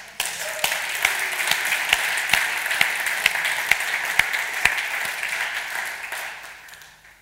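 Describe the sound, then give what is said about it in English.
A crowd gives a round of applause to God for his word, clapping steadily for several seconds, a dense wash of many clapping hands with sharper individual claps standing out, then tapering off at the end. No one speaks. “And we should give a round of applause to God because it is his word.”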